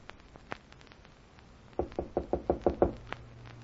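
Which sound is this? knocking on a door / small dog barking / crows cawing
knocking on a door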